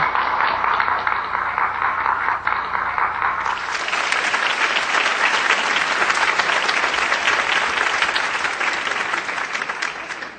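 Sustained, loud applause from a large audience welcoming the Buddhist master Qinghai to give a teaching, swelling after a few seconds into dense, energetic clapping that continues steadily to the end without any talking.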